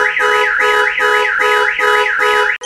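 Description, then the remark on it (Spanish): A loud car alarm siren, set off by its wheel sensor as the car is lifted for a test, wails continuously, its pitch sweeping up and down in a fast repeating cycle, then cuts off abruptly at the end. “Y de igual manera cuenta con sensor para los rines. Ahí vamos a levantar para hacer la prueba.”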